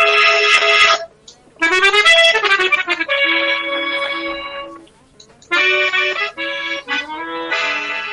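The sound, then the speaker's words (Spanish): An accordion plays a lively tune, bright reedy chords and melody notes in three phrases separated by brief pauses, with no talking. “Tengo el acordeón.”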